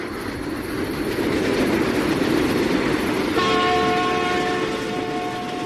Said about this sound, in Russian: И в другую сторону, сверкая огнями, с громом пронесся еще один скорый поезд.